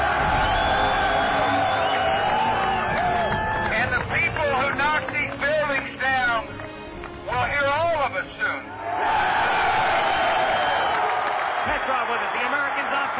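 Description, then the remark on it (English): A loud, dense roar from a large arena crowd cheering wildly in the final seconds of a game, with shrill whoops and yells rising out of the din midway before the sustained roar swells back up. “The crowd going insane.”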